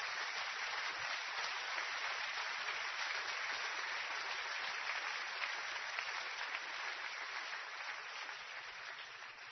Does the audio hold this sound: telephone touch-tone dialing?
no